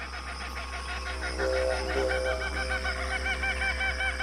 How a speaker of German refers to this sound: Leuchtend rote Papageien sammeln sich in den Kronen der Eukalyptusbäume und freche Kookaburras zerreißen sich das Maul über den kleinen Trupp, der gerade des Weges hüpft.